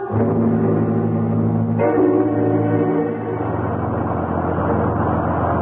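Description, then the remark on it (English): A bus engine drones steadily with no driver aboard, its low hum shifting pitch partway through as if changing gear, then settling into a rougher, noisier rumble of driving. “We've been on this godforsaken bus for almost 20 minutes.”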